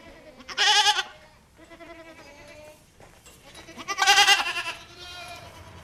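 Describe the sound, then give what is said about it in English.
Goats bleat loudly twice, a long wavering cry near the start and another near the end, with softer bleats and farmyard murmurs in between. “But no, I think we're in here for the long haul with these goats.”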